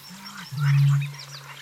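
Frogs croaking at a marsh in a low, steady drone, one long buzzing croak swelling loudly in the middle over a softer one, with faint higher chirps and twitters scattered above.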